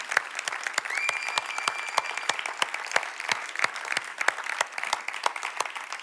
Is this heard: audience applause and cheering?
yes